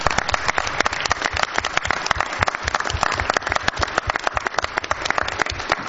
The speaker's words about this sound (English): Maybe we can give a whole round of applause to all 14 recipients and all of the teachers that do so many things for our wonderful children.